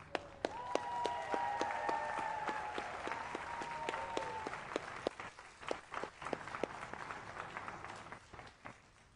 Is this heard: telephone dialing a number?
no